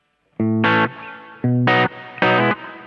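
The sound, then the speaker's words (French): An electric guitar played through a Quilter amplifier, with only a little reverb added at the mixing desk, plays three chord strikes with a pause between each, ringing out clearly and loud, with a slight reverb tail after each chord. “Donc là, c'est que le Quilter et vous allez voir qu'il y a un tout petit peu de Reverb.”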